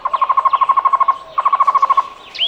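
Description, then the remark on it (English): A Cuban trogon (tocororo), Cuba's national bird, sings two quick runs of evenly spaced, hollow repeated notes, clear and separated by a short pause, with a brief higher chirp at the very end. “The Cuban trogon is a medium-sized bird often found in pairs. Its song sounds like its Spanish name, tocororo.”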